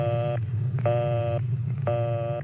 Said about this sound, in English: If the line is busy, you'll hear this busy signal.